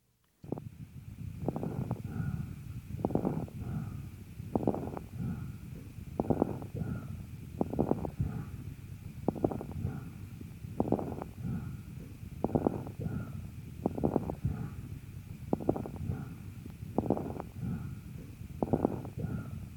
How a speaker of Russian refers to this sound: Крепитация, в отличие от хрипов, не изменяется после покашливания. Сейчас, на фоне бронхиального дыхания, вы услышите крепитацию.